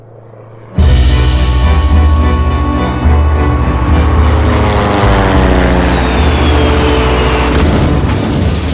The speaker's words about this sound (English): Witnesses say they saw the plane take off and then crash into a nearby field.